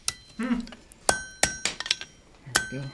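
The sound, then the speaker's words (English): A blacksmith at the Foxfire Center's blacksmith's cabin hammers out an iron tool, striking iron on an anvil about five times at an uneven pace, each sharp clang leaving a bright metallic ring, with a low murmur between some blows. “When he feels that longing, he can walk into the blacksmith's cabin and bang out an iron tool.”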